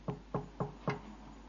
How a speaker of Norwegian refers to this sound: Og så sitter han der på et hotellrom og ber ensom, og han har nesten ikke fått satt seg ned og samlet seg før det banker på døra.